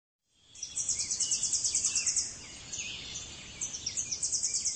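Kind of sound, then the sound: bird, tennessee warbler song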